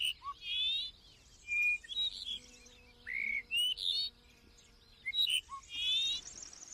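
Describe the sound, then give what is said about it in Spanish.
A Dupont's lark sings short phrases of thin, fluty whistles, some notes rising or sliding, repeated with brief pauses over a faint, steady background. “Dice su nombre la alondra ricotí.”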